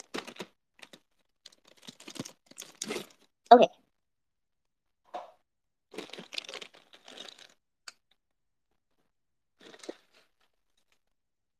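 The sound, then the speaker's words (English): Sharp crinkling and crackling of a plastic ramen package being cut open with scissors and torn, in short irregular bursts with pauses between. A voice briefly speaks once. “Use scissors to open the ramen.”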